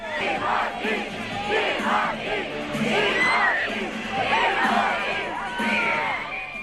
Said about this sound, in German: Ja, Timothy Chalamet ließ hier seine wild gewordenen Fans dieses Jahr in Venedig brüllen, schreien, kreischen. Eine solche Ekstase ist dann auch am roten Teppich auf dem Lido nicht täglich.